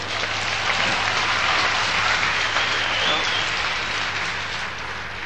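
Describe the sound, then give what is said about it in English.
An audience clapping along together, a dense, steady patter of many hands that holds fairly loud for several seconds and eases off slightly near the end, with no voices standing out. “So if you want to clap, fine.”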